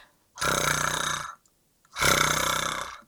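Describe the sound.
A human voice imitates a quiet lion's growl twice, each a rough, buzzy, fairly soft rumble lasting about a second, separated by a short pause.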